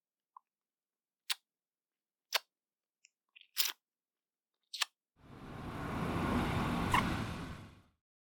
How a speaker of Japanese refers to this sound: お、バスが来ちゃった。もう、行くね。